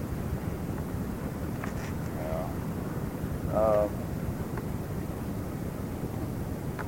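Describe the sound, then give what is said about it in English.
Steady wind roars and buffets the microphone throughout on a cold, windy beach at 6 o'clock in the morning, a constant low rumble, with a person briefly speaking under it. “At 6 o'clock in the morning, out in the cold, windy beach.”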